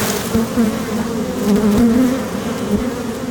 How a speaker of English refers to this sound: So what I did was I just tapped the edge of the frame onto the other frame. And what it did basically was just shake the bees all free. And so now they're more flying.